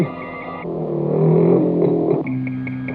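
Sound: car engine running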